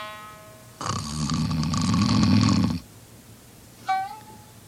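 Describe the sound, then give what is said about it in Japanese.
A voice imitates the long, rumbling snore of a sleeping man, lasting about two seconds and loud, followed by a brief rising vocal whine. “こいつのいびきでお蝶が目覚ますと大変だ”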